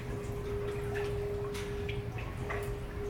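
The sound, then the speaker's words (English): Gentle water of an Amsterdam canal laps softly against the banks in small, irregular splashes and trickles over a steady low hum of background noise, with no voices. “Can you hear the water lapping against the banks?”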